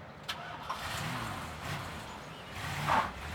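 A car engine runs and the vehicle drives away from a home in Los Angeles, a steady mid-pitched rumble with brief clicks early on and a swell of noise near the end, no voices.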